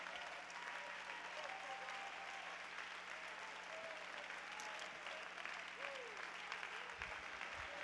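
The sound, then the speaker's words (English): An audience stands and claps hands to thank God in sustained, dense applause, steady and fairly loud throughout, with faint cheering voices rising now and then above the clapping. “Let's stand to our feet, clap your hands, and thank your God for your faith.”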